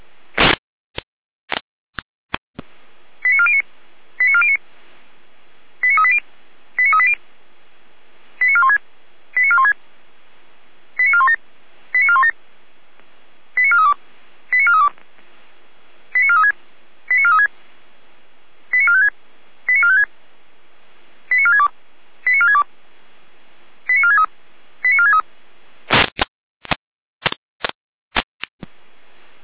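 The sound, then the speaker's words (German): Fire brigade pager test alert tones from the Jena control centre, a test call for Florian Saalfeld-Rudelstadt: a steady series of short electronic beeps in evenly spaced pairs, loud and clear, opened and closed by sharp radio clicks, with no voices. “Der Leitstelle Jena mit Proberuf für Florian, Saalfeld-Rudelstadt.”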